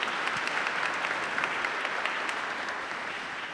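A crowd at a conference claps steadily and densely for a few seconds for a young child and her parents, a sustained wash of applause from many hands that holds its level before easing slightly toward the end.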